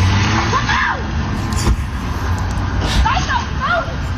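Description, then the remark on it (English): A car engine rumbles steadily amid street noise while a woman shouts and bangs on the car, giving a couple of sharp thumps, as it takes off. “She's like banging on the car and it just takes off”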